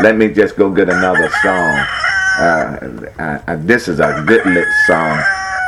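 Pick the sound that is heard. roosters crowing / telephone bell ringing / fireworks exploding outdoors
roosters crowing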